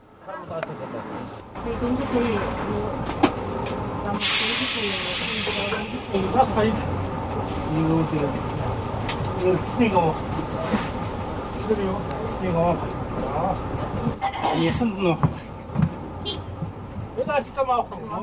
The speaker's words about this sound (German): Ich sitze mit 20 anderen Menschen in einem alten sowjetischen Kleinbus, PAS 3205. Der Bus soll uns zum Dorf Hamburg bringen. 700 Kilometer liegen vor uns. Die Gespräche der Fahrgäste und das Geräusch des Motors vermischen